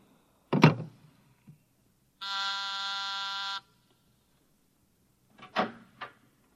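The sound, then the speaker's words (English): A single harsh electric intercom buzz, summoning someone, holds steady for about a second and a half, with a sharp clunk before it and a couple of quick knocks or rattles after. No one speaks. “You buzzed, Mr.”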